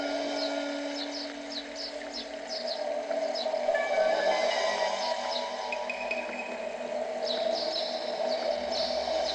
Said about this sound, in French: Écoutez bien le bruit de l'eau.